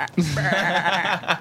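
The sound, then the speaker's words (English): A person's voice does a wavering, nasal sheep bleat imitation, one sustained quavering baa lasting over a second, fairly loud. “Turn into a sheep!”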